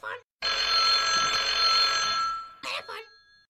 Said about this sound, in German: Oh, Sekunde. Es klingelt gerade jemand.